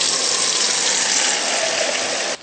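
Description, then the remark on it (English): Four cups of water pour steadily into a saucepan holding two cups of millet, a loud, continuous gushing splash lasting a couple of seconds before cutting off abruptly. No one speaks. “So we'll add this to the pan.”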